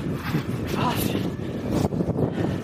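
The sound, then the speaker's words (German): Steady, loud wind buffeting a microphone, a broad rumbling roar with gusty surges that never lets up across the few seconds. “Es windet ziemlich, ich hoffe sehr, dass ihr uns trotzdem noch verstehen könnt.”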